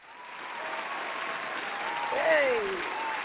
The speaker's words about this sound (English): You got to have a virtual applause going. You stepped in the virtual building.